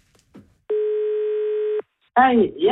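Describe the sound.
A single steady electronic beep from a radio request line's telephone answering machine, held for about a second, then a short pause before a caller from Oslo starts talking.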